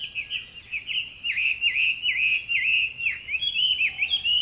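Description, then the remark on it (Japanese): A Chinese hwamei sings a loud, continuous run of rich whistled phrases, rising and falling in quick swoops and slurs, with no pause and no voices over it. “あとガビチョウとかね。”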